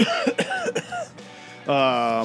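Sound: coughing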